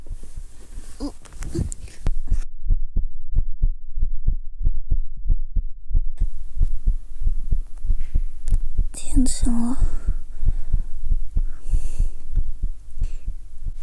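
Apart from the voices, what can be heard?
fast heartbeat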